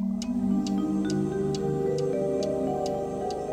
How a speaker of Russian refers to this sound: В темной комнате стояла тишина, только стенные часы отстукивали. Тик-так, тик-так